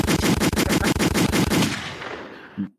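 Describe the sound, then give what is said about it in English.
Rapid automatic gunfire rattles in a loud, steady burst of about a dozen shots, then fades into a rolling echo with one last muffled thump at the end. “Let me give you some more gunshots.”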